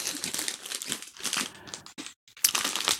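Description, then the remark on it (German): A bag of Guinness flame-grilled steak flavoured potato chips crinkles and rustles in a steady stream of crisp, bright crackles, pausing briefly near the end before a final loud burst of crinkling. “Was hast du denn für Chips und wo kommen die her?”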